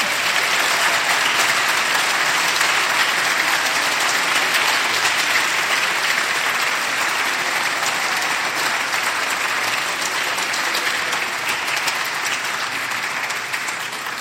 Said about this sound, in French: Et les applaudissements vont aussi aux moniteurs et aux monitrices de l'éducation biblique.